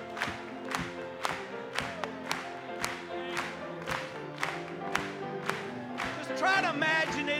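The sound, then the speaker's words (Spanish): An audience claps in a steady rhythm, sharp claps landing about twice a second, over sustained music with a murmur of crowd voices beneath, growing slightly louder toward the end. “Vamos a aplaudirle.”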